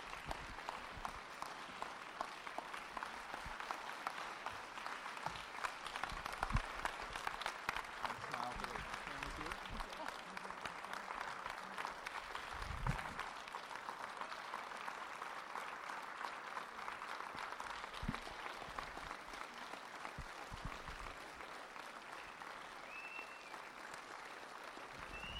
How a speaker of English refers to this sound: Stay on your feet and keep those hands clapping for your new lead pastors